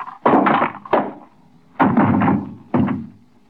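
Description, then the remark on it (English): A man is struck on the head with a paperweight and knocked cold: four heavy, dull thuds land at uneven intervals, each blunt impact ringing briefly before the next, with no voices. “What'd you hit him with? Just a paperweight.”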